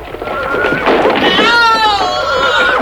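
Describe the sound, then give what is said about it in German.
A horse lets out a loud, shrill whinny that quavers and falls in pitch, rising out of a busy, noisy background of commotion for a couple of seconds, as its rider, a governor struck by loosened roof tiles, falls from it. “Er ist vom Pferd gestürzt.”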